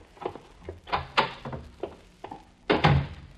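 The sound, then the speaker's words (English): A door being worked open and shut: a run of wooden thumps and latch clunks, ending in a heavier closing thud. No voices. “Why aren't you answering the door? You stay here. Please, stay here until I get back.”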